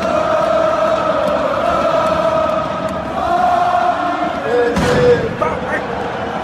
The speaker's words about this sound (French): Avec des pétards et des fumigènes, les supporters ont donné de la voix